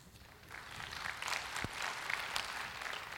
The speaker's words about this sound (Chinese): 我们掌声欢迎。